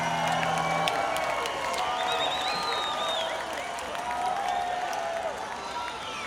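A large concert crowd in Buffalo yells and cheers together for a song request, many overlapping voices forming a steady, loud roar with scattered whoops and some clapping, heard from within the audience.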